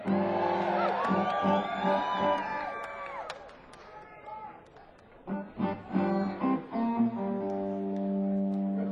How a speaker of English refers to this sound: everybody else is screaming.